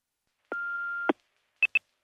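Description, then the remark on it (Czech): An answering machine beep on a telephone answering machine before a recorded message: a clicking, steady mid-pitched tone lasting about half a second, then two quick higher-pitched bleeps in a row, clear with no voices. “Na svém telefonním záznamníku máte tuto zprávu.”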